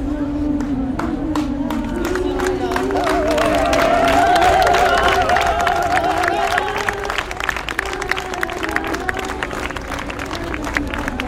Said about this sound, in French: Les applaudissements des servantes écarlates. C'est pas les gilets jaunes aujourd'hui, ce mercredi à Paris, dans le 7e arrondissement avec ses ministères. Là, ce sont les servantes écarlates, les capes rouges vifs